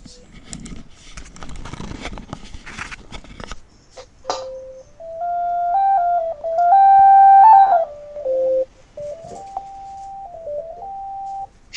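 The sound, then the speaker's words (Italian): Light signal turned into sound: a few seconds of crackly, buzzing static, then a clear electronic tone that hops between steady pitches in steps, like a simple scale, fairly loud. “Infatti, scusa, rifai sentire un attimo la luce?”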